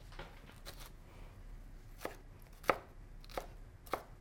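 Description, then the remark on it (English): A knife dices vegetables on a cutting board, sharp clicking taps repeating every half second or so, with a few louder strikes standing out, over a low background hum and no talking. “It'll say a half-inch dice or a 3/4-inch dice.”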